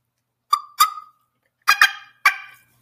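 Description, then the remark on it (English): A person imitates a hen turkey on a call, producing five sharp, raspy yelps in uneven pairs, fairly loud, with brief silences between them. “What I usually try to do when he's got hens, I either try to get in his face and get the hens to come towards me, which I'll do something like, let me see.”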